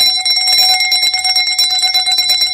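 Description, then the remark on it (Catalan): A church bell, a reproduction of original bells lost in the war with the same notes, rings the fire-alarm peal (toc de foc) documented from 1920: rapid, urgent strokes blurring into a continuous bright, metallic clangor that stays loud and steady throughout, with no voices. “Que aquest seria el toc de foc”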